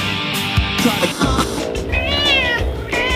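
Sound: cat meowing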